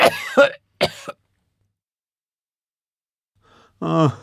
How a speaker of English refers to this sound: I have a really bad cough. I'm coughing all the time.